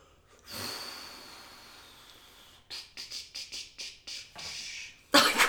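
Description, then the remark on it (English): During a quiz, a voice imitates a train in answer to a question about a new train: a long breathy hiss, then about seven quick rhythmic chugging puffs, ending in a louder burst of breathy noise. There is no speech. “You made a little train noise.”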